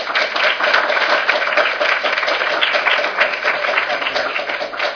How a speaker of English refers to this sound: Any other comments or questions for our presenters? Excellent presentation. Thank you. Yes, another round of applause.